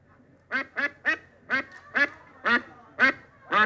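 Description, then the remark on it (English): A duck, introduced as Melvin the Duck, quacks about eight times in a steady, evenly spaced series of nasal calls, loud, with no voices or other sounds alongside. “Ladies and gentlemen, why, it's Melvin the Duck.”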